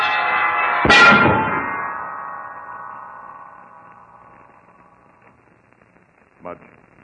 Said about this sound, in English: That heavy bell hurtling downward hit Mudge a solid blow, killed him instantly.